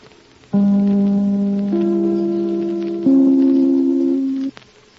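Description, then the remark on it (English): The NBC (National Broadcasting Company) broadcast chimes ring out: three loud, sustained bell-like notes, each held about a second, stepping in pitch one after another over a soft background hiss. “And now, Tallulah Blossom, honey, if you want to ring your ever-loving chime.”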